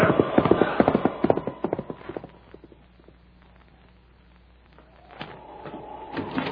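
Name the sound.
horse hooves clip-clopping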